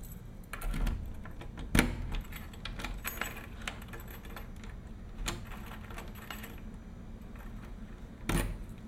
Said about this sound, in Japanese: 鍵を閉める。